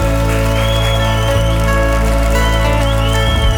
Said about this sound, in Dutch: Terecht applaus.